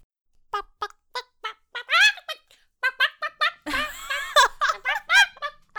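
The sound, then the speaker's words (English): A woman imitates a chicken, letting out a rapid series of short, choppy bawks and clucks, growing louder and more frantic, with a burst of laughter or noisy breath partway through. “you will start balking like a chicken”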